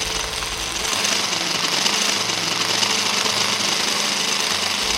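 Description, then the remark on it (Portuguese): A food processor blending bananas to homogenize them into a smooth, creamy banana biomass runs with a loud, steady motorized whir and a gritty, buzzing rattle that holds constant for the whole stretch, with no talking. “Eu vou dar uma batida aqui no processador, é rapidinho.”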